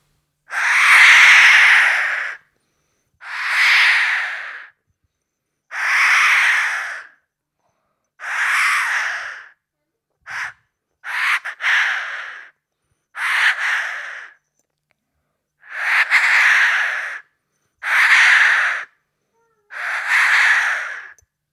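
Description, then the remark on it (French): A person's voice imitates a Eurasian jay for listeners to guess in a bird-guessing game, giving about ten harsh, raspy screeches in a steady series, each a second or so long with short pauses between, fairly loud. “Là, c'était le G.”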